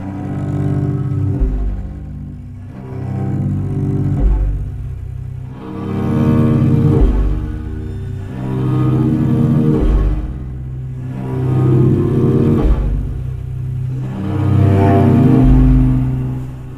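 A low, growly cello rumbles through sustained, gritty bowed notes that swell and fade in slow waves every few seconds, with no voices present.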